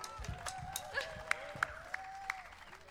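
Scattered audience applause, fairly quiet, with a few sharper individual claps standing out and faint crowd voices or whistles underneath.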